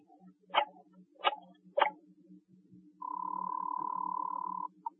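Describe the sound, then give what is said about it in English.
A telephone number being dialed without looking at the phone: three sharp, evenly spaced clicks, then a steady electronic tone lasting over a second and a short final blip, over a faint low hum. “So, again, just for the fun of it, and without looking at the phone, I dialed 7 times.”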